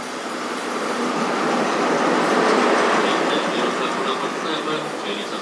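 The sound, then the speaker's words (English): A train rumbles in at a station platform, a loud, steady rush of wheel and carriage noise, with faint high brake squeals flickering through it. “Here comes another train though, so might work it out after that.”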